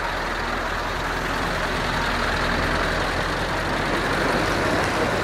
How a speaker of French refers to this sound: Nous voilà au Havre, en Seine-Maritime. On sort de la gare et là, il y a un gros camion rouge qui nous attend.